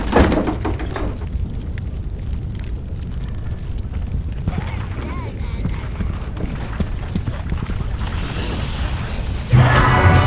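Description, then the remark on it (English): A door is pushed and shut with a solid thud near the end, preceded by shuffling movement and low rumbling. “Unless you want the horrible following us in here, I suggest you shut the door.”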